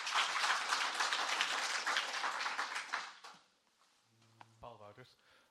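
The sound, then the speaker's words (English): A burst of audience applause, a dense crackle of many hands clapping, holds steady for about three seconds, then quickly fades away as a voice starts speaking. “A little bit of an applause is always warranted and appreciated.”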